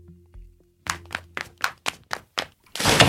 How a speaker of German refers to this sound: Im Sommer, wenn man im Urlaub ist und dann halt ins Wasser springt, dann... Genau, das ist der Sommer. Das war eine richtig schöne Arschbombe.